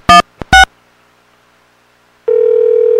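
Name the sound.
telephone dialing a number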